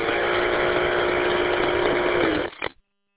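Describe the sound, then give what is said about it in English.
A small engine with a CVT transmission drones loud at a steady pitch for about two and a half seconds as the CVT shifts, then cuts off abruptly with a brief sputter. No voices are heard. “I can hear the CVT shifting in and out.”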